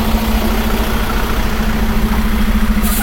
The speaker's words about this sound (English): Apparently big truck there. Might even be carrying a trailer.